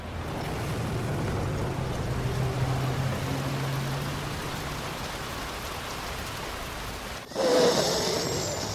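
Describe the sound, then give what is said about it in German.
Steady, dense interference static hisses from a car radio throughout, with a low hum underneath, as the driver tries to find the station again, then abruptly cuts and shifts to a brighter, harsher crackle near the end. No voices are heard. “es gibt Störgeräusche im Radio. Man hört noch die letzten Fetzen von dem Anrufer. Naja, der Fahrer gähnt, versucht den Sender wiederzufinden, ist abgelenkt.”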